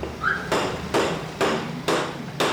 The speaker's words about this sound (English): After stuffing the cuy, she skewers it on a thick metal rod. It doesn't slide on easily, so she slams the skewer against the cement floor.